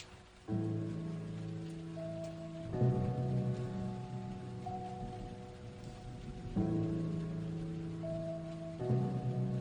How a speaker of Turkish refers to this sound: Ne ağır yağış ya.